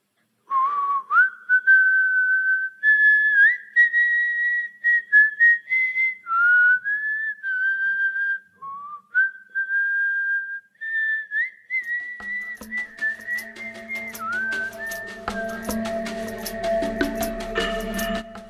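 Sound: person whistling a tune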